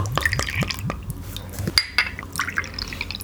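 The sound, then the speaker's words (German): Dewdrop Blackcurrant drink being poured into glasses for four people to taste, with splashing, dripping and trickling sounds and a few sharp glassy clinks over a low steady hum. “gieß doch mal ein.”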